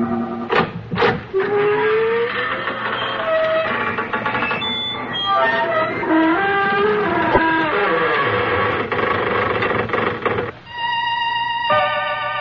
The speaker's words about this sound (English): Good evening, friends of the creaking door.